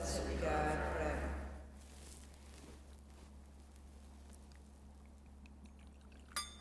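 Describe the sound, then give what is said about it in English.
A short splash of water poured into wine in a chalice, lasting under two seconds, then quiet with a faint clink near the end. “By the mystery of this water and wine, may we come to share in the divinity of Christ, who humbled himself to share in our humanity.”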